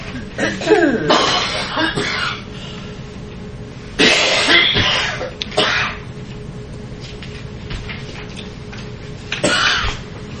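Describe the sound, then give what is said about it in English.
Several harsh, raspy coughs come in bursts over about ten seconds, loud, with a throat-clearing quality and brief pauses between fits. “What'd you do? Get my cough?”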